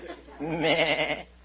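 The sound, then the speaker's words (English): A single sheep bleats once while being clipped (sheared), a loud, wavering baa with a shaky tremolo that lasts under a second before fading into quiet. “Yeah, I'm clipping a sheep.”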